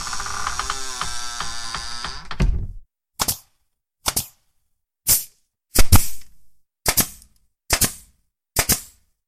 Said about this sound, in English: Oh, look, they're moving her to the coffin now. They seal the coffin.